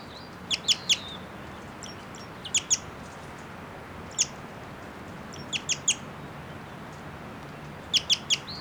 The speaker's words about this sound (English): That bird I think might be a male. And it's giving some song now. It's a song phrase.